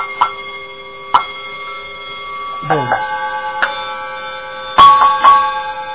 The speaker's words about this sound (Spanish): esto es un repique de campana.